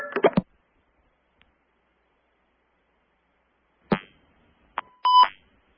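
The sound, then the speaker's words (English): A couple of short clicks and thumps, a pause, then a brief electronic beep followed by a longer, louder two-tone beep as a caller is connected on a phone line. No one speaks. “Beep alarm? You got it. Here they come.”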